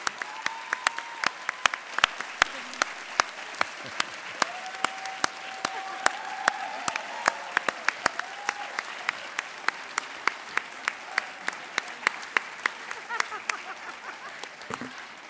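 An audience applauds the 2018 cohort of Open Society Institute Baltimore Community Fellows for about fifteen seconds, a steady patter of sharp, distinct claps at a moderate level, with a few faint tonal whoops underneath and no speech.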